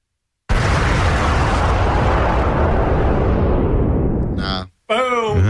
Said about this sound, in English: I'll show you a better bomb. Yeah, watch this.